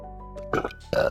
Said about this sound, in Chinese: 我操！我他妈还在打饱嗝、 我也喝的在打嗝。我操！ 都在打嗝呀，瓜。